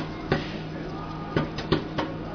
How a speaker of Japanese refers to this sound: これがですね、亀田製菓で売っています、オービル電子レンジ用ポップコーンバニラ味。今音がし始めました。